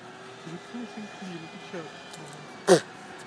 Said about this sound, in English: Someone's vacuuming their car. You hear it?